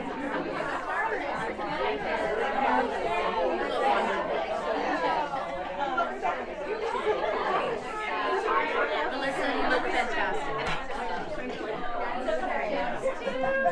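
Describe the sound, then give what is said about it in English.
A crowd of women in an audience chatting all at once as they introduce themselves to one another, many overlapping voices blending into a steady, lively hubbub with no single speaker standing out, holding an even loudness throughout. “So anyway, so first of all, if you haven't already, just turn to the gal next to you and say, you look fabulous, and find out her name if you don't know it already.”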